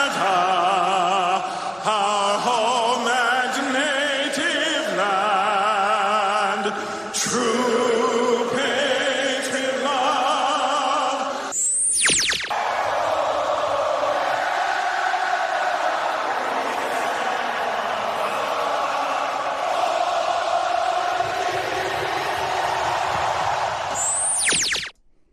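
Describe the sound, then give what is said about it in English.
A large arena crowd in Edmonton sings the Canadian national anthem, O Canada, in slow, sustained, shifting notes for about twelve seconds, then breaks into a loud, continuous roar of cheering that carries on to the end. “O Canada, Edmonton crowd.”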